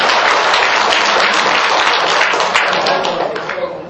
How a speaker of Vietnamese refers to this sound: Nhưng mà bên nữ phải trả lại cho người ta một tràng vỗ tay.